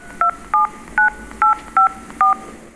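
Six short keypad dialing tones from a mobile phone, each a crisp two-note beep, pressed in a steady, slightly uneven rhythm against a quiet background with no talking.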